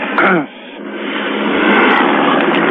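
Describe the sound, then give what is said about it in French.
A helicopter passes overhead above a residential area during unrest, with riot police in the street below, shining its spotlight on an apartment; its steady rushing roar fills the scene and swells slightly louder as it continues; a brief voice sounds at the very start. “L'hélicoptère continue à passer au-dessus.”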